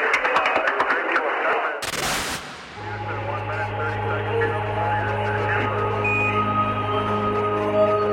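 The Houston press room bursts into dense, crackling applause for a couple of seconds as the television image of Armstrong arrives, then a sharp burst of noise gives way to a steady electronic hum with faint chatter and radio tones underneath.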